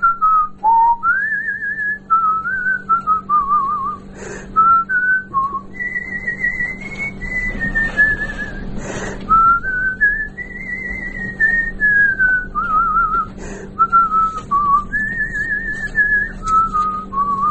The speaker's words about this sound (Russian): А так и по улице хожу, так я все насвистываю, что-нибудь. На балкон выйду, тоже все. Что-нибудь насвистываю.